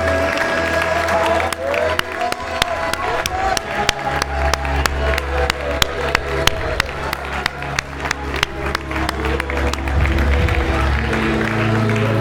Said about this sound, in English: Come on, church. Let's give the Lord a clap offering this morning.